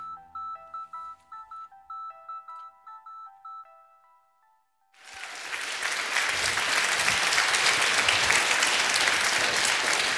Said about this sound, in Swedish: Visst känns det skönt, Claes, att få en sån applåd innan man ens har gjort nytta?